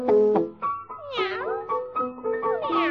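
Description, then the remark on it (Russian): A cat meows repeatedly and loudly, a quick series of drawn-out, wavering mews with rising and falling pitch, one after another over a faint low background hum. “Мяу, мяу. Кот?”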